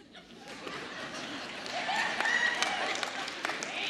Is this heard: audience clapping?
yes